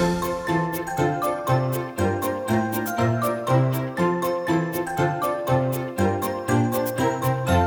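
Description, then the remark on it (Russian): A baby rattle jingles in steady rhythmic shakes over a bouncy, tuneful instrumental melody of a Russian children's rattle song. The bright tinkling accents fall regularly on the beat throughout, with no voices. “Погремушку раз, два, три, ну-ка в ручку ты возьми, а теперь-ка поскорей спрячь за спинку от друзей.”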